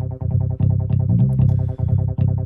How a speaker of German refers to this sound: So, und wir finden uns wieder im nächsten Part. Ein tieferer Synthesizer nimmt auch dieses schnelle Tempo auf. Und hier setzt auch ein Bass ein.